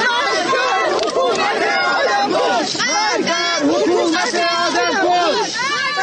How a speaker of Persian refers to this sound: مردی که از تنهایی دست جمعی می سرود و حالا تنهای تنها اینجا خوابیده، گوشه‌ای در امامزاده عبدالله شهر ری. و این فریادها که می گویند شاعر در نگذشته، جان باخته.